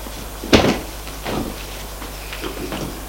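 A door opens with a sharp knock-like click and a brief rattle, followed by softer creaks and shuffling sounds as it swings; no one speaks.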